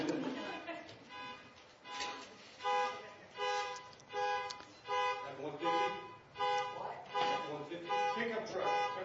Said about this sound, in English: I'm not sure whose horn that is, but you think it's yours, go take care of it. Someone's horn is blowing, and I won't be able to continue the teaching as long as the horn is blowing.